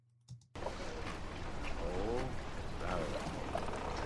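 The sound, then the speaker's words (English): A fishing reel ticks in quick, steady clicks as line is pulled out, heard over a constant wash of sea and boat noise, with faint voice-like tones in the background. “let's hear how Williams handles this scene as the rod starts to tick here”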